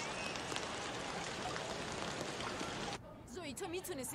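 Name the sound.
light rain falling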